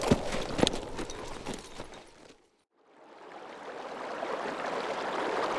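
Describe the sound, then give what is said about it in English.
Rapid hoofbeats of ridden Mongol horses pound for a couple of seconds, then cut off into brief silence before a steady rushing noise like wind or running water swells up and continues. “The snow was less deep here, and they were able to remount the Mongol horses.”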